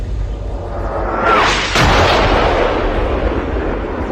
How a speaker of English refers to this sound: Is that an explosion I'm hearing? Well, sadly, we were found out early.